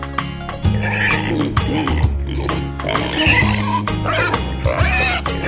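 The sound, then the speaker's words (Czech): Several grunting pig oinks over the upbeat instrumental backing track of a song about seeing piglets on a farm, repeated in short bursts at a fairly loud level. “My chceme vidět prasátka, když na farmu jdem.”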